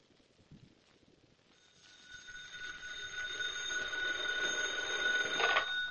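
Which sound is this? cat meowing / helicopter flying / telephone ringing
telephone ringing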